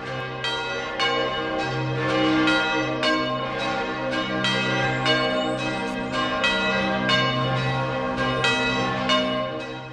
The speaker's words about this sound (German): Die Patriarchalbasilika San Paolo fuori le mura, deren Glocken zusammen mit denen anderer bedeutender Pauluskirchen Europas heute die Weihnacht des Jahres 2008 einläuten, liegt vor der Aurelianischen Stadtmauer